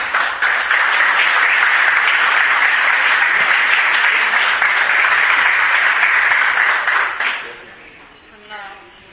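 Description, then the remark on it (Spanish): Loud, sustained applause from a large crowd at the Trovada Mundial de Peñas de Fútbol Club Barcelona, for the author of its official anthem, fills the space for about seven seconds, then fades quickly, leaving faint voices as a person begins to speak. “Un fuerte aplauso para ella.”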